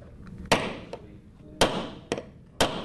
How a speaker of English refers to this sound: And there's a lot of sawing and nails and talk of wheel alignment.